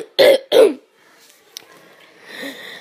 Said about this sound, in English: Just let me clear my throat a little.